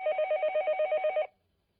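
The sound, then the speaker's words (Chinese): A telephone rings early in the morning with a single rapid, trilling burst of electronic pulses lasting just over a second, loud, then cuts off into silence. No one speaks. “第二天一大早，周雨山便被电话吵醒了。”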